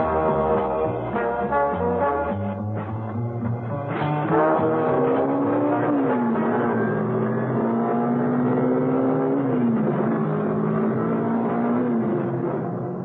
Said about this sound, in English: out on the open road, Mrs. Peel was able to put on some speed. There was no traffic about, luckily, and the car responded like a rocket.